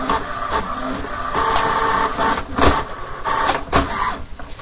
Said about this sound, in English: You hear it starting to print. That's how the printer sounds.